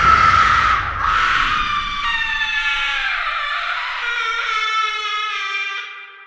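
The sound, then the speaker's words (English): Loud, sustained high-pitched screaming and yelling from several kids running wild through a house, wailing and sliding in pitch almost continuously before trailing off at the end. “Kids running wild, out of control, through the house, yelling, screaming, causing a ruckus, smashing windows, demanding you buy them the Nintendo Wii.”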